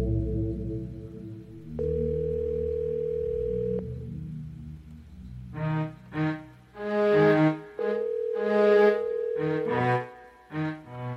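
A telephone ringback tone on an outgoing call, ringing unanswered, sounds twice as long steady beeps, each about two seconds, with a low hum underneath and bursts of harmonic, voice-like sound between and around the second ring.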